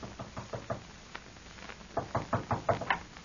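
Someone knocks at a door in two bursts of firm knocking, a quick run of four raps, a pause, then five louder, sharper raps, with no voices.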